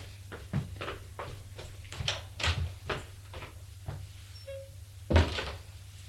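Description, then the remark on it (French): A door is opened by a man after a series of soft thuds and shuffling movements as he puts on his dressing gown, with a brief squeak of the hinge or latch followed by a louder knock-like bump, over a low steady hum. “Il enfile sa robe de chambre. Et va ouvrir.”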